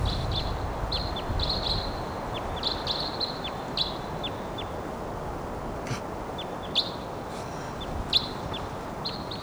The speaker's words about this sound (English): Wild bird.